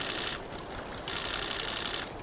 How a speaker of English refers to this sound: and photographers with foot-long lenses clicking away as they watch the raptors.